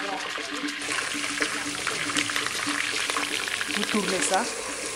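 Sliced onion, bell pepper and a chili pepper sizzle steadily in a large hot pan of oil, a dense frying hiss with scattered crackles and pops that continues without a break.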